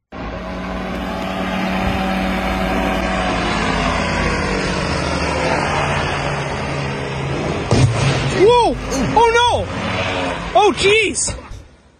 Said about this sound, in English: This guy thought it would be a good idea to try paragliding along a river. And for some reason, I guess, didn't see the power line he was driving after. And you can hear him hit it.